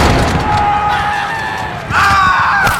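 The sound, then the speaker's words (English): A loud, chaotic volley of musket gunfire in Boston fills the scene, with sharp cracks and booms over a dense roar and what sound like cries or screams rising partway through. “Fire!”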